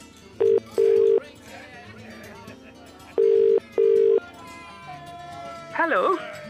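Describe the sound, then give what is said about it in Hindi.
A phone line's ringback tone purrs twice in a double-ring pattern, each pair of steady electronic tones separated by a pause, with faint background voices and a short warbling sound at the end. “ठीक है, ये नंबर तू ही कर ले. मुझे क्यों फोन दे रहा?”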